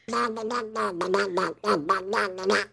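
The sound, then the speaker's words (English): A person does a Donald Duck voice impression, a raspy, buzzy squawking babble in quick bursts with a short pause midway, fairly loud. “how much do you like my Donald Duck on a 1 to 10?”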